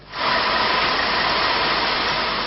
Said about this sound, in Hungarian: A teherautók tengelyig járnak a vízben.